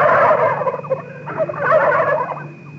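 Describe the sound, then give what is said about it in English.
Several turkeys behind a fence gobble in a loud, dense chorus of warbling calls, rising and falling in two bursts with a brief dip between. No speech. “It was some turkeys behind that fence.”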